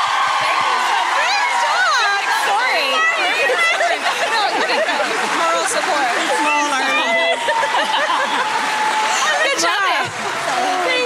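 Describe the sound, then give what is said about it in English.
A loud, dense crowd cheers and shouts throughout, with overlapping voices and occasional whoops rising above the steady roar of the audience. “Give us a round of Let's applause.”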